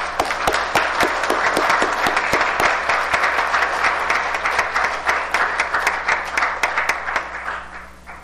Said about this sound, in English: But I think before we give them that, we need to give them a round of applause.